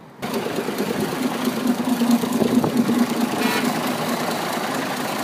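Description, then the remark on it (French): Steady street traffic in Almaty in cool weather, cars driving past beside someone walking, with a continuous engine rumble and a low hum, a passing vehicle swelling briefly midway through; no voices. “Je marche dans les rues d'Almaty, il fait frais, les voitures roulent à côté de moi.”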